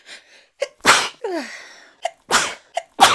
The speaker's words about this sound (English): Oh god, don't start a fucking sneezing fit.